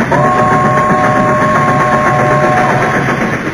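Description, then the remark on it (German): A train appearing out of nowhere roars through, running over Trogs and leper gnomes, with dense, loud rumbling noise, while a steady horn-like tone holds for about two and a half seconds before the rush fades slightly. “Der Zug hat alle Trogs und Lepra-Gnome überfahren.”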